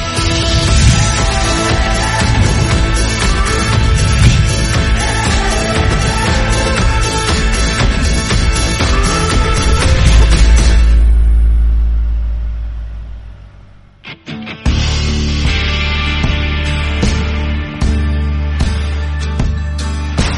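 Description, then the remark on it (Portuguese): A Mahindra 8000S cab tractor engine runs loud in operation with a steady low rumble, swelling briefly before dropping away, then droning on, no one speaking; at Fazenda Recanto dos Laranjais, Qualicitrus group orange groves, Anhembi, interior of São Paulo state. “Por lá, acompanhamos o desempenho do trator Mahindra 8000S cabinado em operação.”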